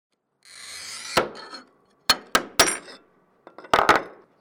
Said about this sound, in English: is scoring and cutting glass in his Squirrel Hill studio, his sheepdog sitting by his side. It's a unique place, an otherwise unused level of a parking garage where several artists have set up workspaces.